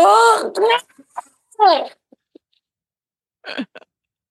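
A young dog learning to howl with the rest of the pack attempts to howl in three short, squeaky bursts with wavering pitch, each cracking off quickly, separated by quiet pauses and a few faint clicks.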